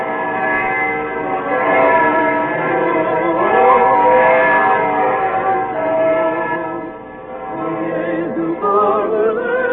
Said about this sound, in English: And then hurrying home for dinner in the snow, as the evening bells began to ring high up in the Staple Tower.